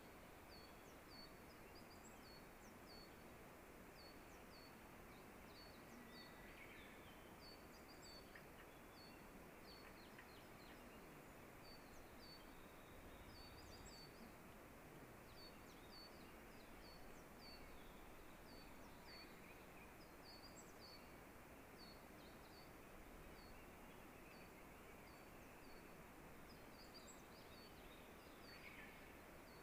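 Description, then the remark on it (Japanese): A meadow bunting sings faintly, its short high chirping phrases repeating throughout over a steady, loud rushing background like wind or flowing water. “聞こえてるのはホウジロウですね。”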